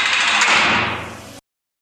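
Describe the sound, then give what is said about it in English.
Doors slide shut with a loud, steady rushing whoosh lasting over a second, then cut off abruptly as they close, with no voices present. “Alright, fellas, stand back and watch the closing doors. Lock them up.”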